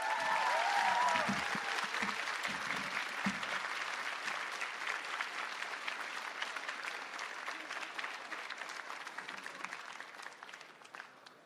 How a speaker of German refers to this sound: Einmal Applaus für Jan Philipp Zimny.